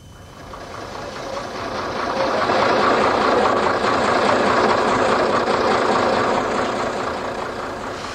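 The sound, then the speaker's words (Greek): A caique's diesel engine drones steadily with a rough, throbbing rumble as the boat passes the northern cape of Delos, Greece, and sails along the island's northwest coast, swelling louder over the first few seconds, holding, then easing slightly toward the end. No voices. “Το καΐκι έχει μόλις περάσει το βορεινό κάβο του νησιού.”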